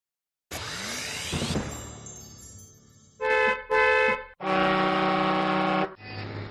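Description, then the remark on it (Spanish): Several car horns honk in sequence, starting with a rising tone, then two short blasts followed by a long sustained honk and another, loud with no talking. Drivers in San Lorenzo del Escorial honk to salute their patron saint, San Cristóbal, on 10 July. “Quien haya pasado esta mañana por San Lorenzo del Escorial habrá podido escuchar multitud de sonidos de claxon.”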